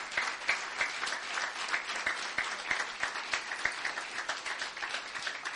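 A crowd applauds steadily for several seconds, a dense, even patter of many hands clapping with no voices standing out above it, thanking a man who is stepping down for his service.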